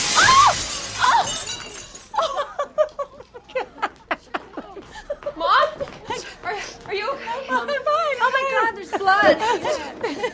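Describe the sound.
A glass table shatters with a loud, bright crash right at the start as a woman, played by Dana Wheeler in a TV series scene, falls through it, followed by excited voices talking over each other and some chuckling.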